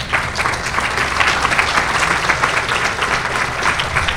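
A crowd applauds steadily for two assistants coming up, a dense wash of many hands clapping at an even, sustained loudness for several seconds with no voices rising above it.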